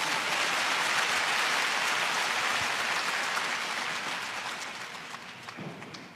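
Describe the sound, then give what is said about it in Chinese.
A crowd applauds steadily, a dense wash of many hands clapping at once, loud and sustained before gradually thinning and fading toward the end. “阿们，阿们，阿们，要鼓掌就要大声一点。”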